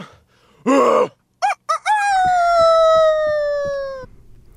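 A goose honks loudly: one harsh blast, two quick short honks, then a long drawn-out honk that slowly sags in pitch, with faint rhythmic thumps underneath.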